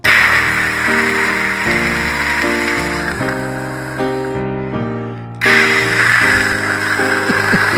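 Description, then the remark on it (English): Loud, steady loopback white noise hisses throughout, layered over low sustained tones that shift pitch every second or so; the hiss briefly turns muffled before surging back at full brightness. “some loopback white noise.”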